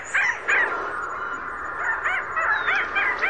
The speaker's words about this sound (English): Thick-billed green and red mountain parrot of Mexico, the Cotora serrana occidental. This is music from a remarkable collection called A Guide to the Bird Song of Mexico, Central America, and the Caribbean.